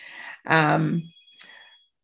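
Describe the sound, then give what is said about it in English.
A phone sounds off with a loud, buzzy electronic tone, followed by a thin sustained beep and a softer chirp that fades into quiet. “I'm sorry, my phone is just doing crazy stuff.”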